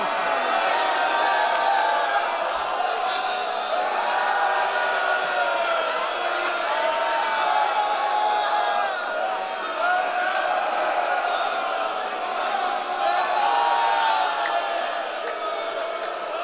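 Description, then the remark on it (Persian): A large crowd shouting and wailing together in a dense, unbroken wall of raised voices that stays loud and steady for the whole stretch, with individual cries rising and falling within the mass. “پسرم همه دارن داد میزنن، تو هم یه داد بزن، امتحان کن، نمونه تو دلت بری مریض شی، امتحان کن، داد بزن.”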